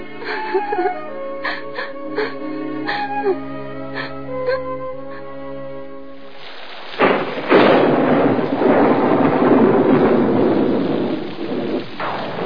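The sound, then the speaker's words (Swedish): After a few seconds of soft tonal, music-like sounds, a sharp thunderclap breaks in and heavy rain pours steadily and loudly, with rumbling thunder rolling beneath the downpour to the end, on a stormy night in October. “Valparna kom den dagen vi hade räknat med, och det var en riktig ovädersnatt i oktober.”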